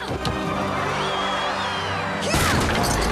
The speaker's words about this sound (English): smashes a hole in the backdrop.